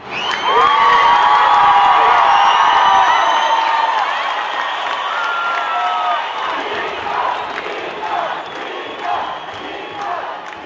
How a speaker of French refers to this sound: Et quand le résultat du vote s'affiche sur les écrans, une immense clameur s'élève de la place de la République.